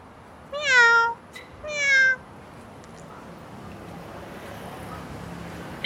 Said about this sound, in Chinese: 这里还也有一只猫，喵。总共有两只猫，这些都是流浪猫，没有人养的。喵，喵，那边还有一只，两只，哦，好多只猫啊。